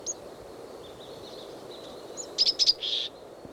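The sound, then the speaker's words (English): A bird perched on dead branches gives a few high, sharp call notes: one short note at the start, then three quick clustered notes and a slightly longer one near the end, over a steady low background hiss. “Those call notes are given while perched, not while moving.”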